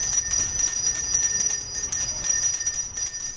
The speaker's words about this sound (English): Just about everybody knows that sound, the sound of a Salvation Army bell ringer standing vigil over a kettle in front of the grocery store or at the mall. It's one of the most iconic images of the holiday season and one of the most effective.